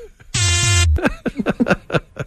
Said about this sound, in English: See, it's a robot fart. That's a mean robot fart. Does not compute. Like, we finally found the sound. An electronic fart.